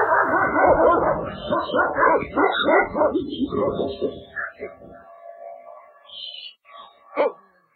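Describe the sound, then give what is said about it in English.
A dog barks and yips in a rapid, excited string of loud calls, trailing off into a few sharper yelps and whimpery sounds toward the end. “Oh, a dog. A dog.”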